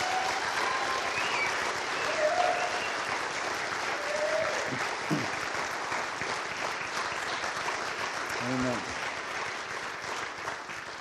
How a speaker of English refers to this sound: Amen. I think we should give the Lord a round of applause.